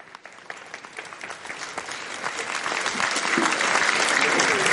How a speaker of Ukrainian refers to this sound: Товариші аплодують.